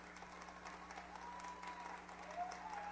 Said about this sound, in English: Chiefs trying to even up this series at a game apiece. Some of the fans still here trying to applaud along.